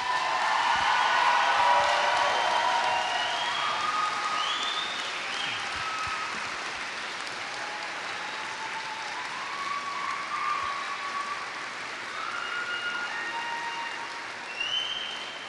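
At a graduation ceremony where diplomas are presented, an audience applauds the graduates with steady, dense clapping that holds for about fifteen seconds, loudest at the start and then evening out, with a few high whistles mixed in and no talking.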